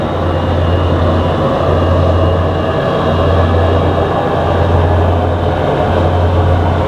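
A steady, loud airplane engine drone fills the whole stretch inside the cabin, a constant low hum under a broad airy roar. No one speaks.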